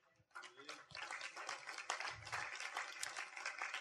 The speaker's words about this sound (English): But in a church of 120, there's 8 people who do that. And I just think we should applaud them right now.